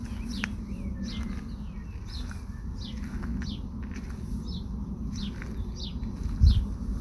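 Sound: birds singing outdoors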